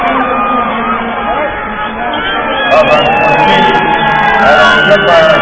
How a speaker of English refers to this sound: Kings West cheers, trying to influence the referee.